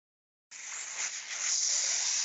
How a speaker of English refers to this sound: Sizzling.